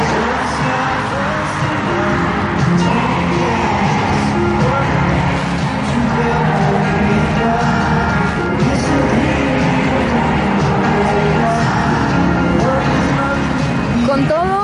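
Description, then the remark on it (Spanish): A large, dense concert crowd at the Palacio de los Deportes roars continuously, many voices screaming and cheering together with shrill rising shrieks cutting through, loud and unbroken throughout. “Imagínate todo así eufórico, luces, sonido, gritos”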